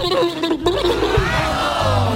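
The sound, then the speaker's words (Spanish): A peacock's loud, piercing call, a harsh wailing cry that rises and holds for about two seconds with a brief break partway through. No one speaks. “O un pavo real.”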